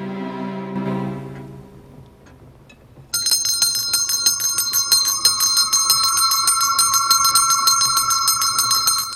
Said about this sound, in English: A bell above the fire suddenly rings, startling the aged Scrooge.